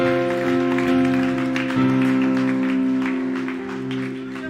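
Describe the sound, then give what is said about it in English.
A church audience claps steadily in a dense, rapid patter and shouts praise to the Lord over a sustained, droning organ or keyboard chord that holds through the whole passage. Scattered voices may be mixed in. “Come on, let's give the Lord another clap and shout.”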